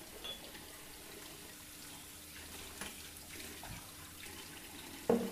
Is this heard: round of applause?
no